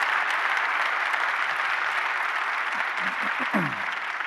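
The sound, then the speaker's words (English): A crowd at a service claps to welcome a man attending, a dense, continuous wash of applause, with a few faint voices rising and falling underneath toward the end. “Would you help me give him a huge round of applause?”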